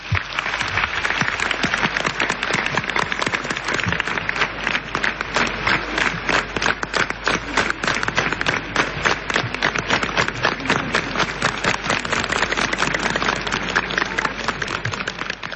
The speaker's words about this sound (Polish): Tym razem bardzo Wam dziękuję za te oklaski w imieniu Mickiewicza.